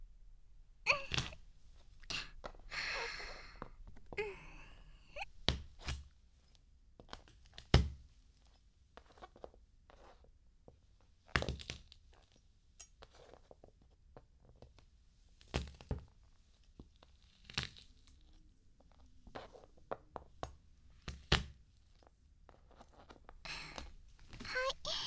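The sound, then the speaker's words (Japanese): Fish flesh being crushed with the flat of a knife: irregular dull thumps and squashing presses, a dozen or more spread unevenly, some sharper and louder, with quiet gaps between. “それじゃあ今度は包丁の側面を使って身を押しつぶしていきます。”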